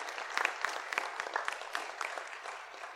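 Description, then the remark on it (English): An audience at a church confirmation service applauds a newly confirmed girl, a steady wash of many hands clapping with scattered sharper claps standing out, at moderate volume without any talking. “You can put your stuff down, and we'll give her a round of applause.”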